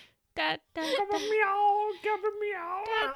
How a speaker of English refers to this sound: The cat's being really loud.